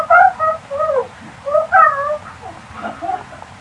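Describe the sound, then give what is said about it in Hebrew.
A cuckoo calls again and again, its clear two-toned hoots repeating every second or so at moderate loudness over a low, steady background rumble. “זה קוראים לה קוקייה, הציפור הזאת.”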